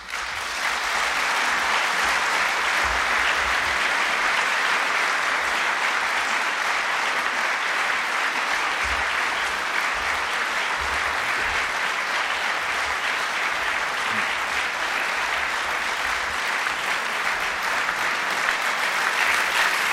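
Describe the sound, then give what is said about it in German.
Sustained applause from a large audience after a minister's speech fills the whole stretch, a dense, steady wash of clapping at an even loudness with no speech over it. “Mit dem Beifall werden Sie noch auf 2-mal Außenminister.”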